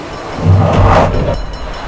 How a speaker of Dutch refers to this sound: Goh, trein!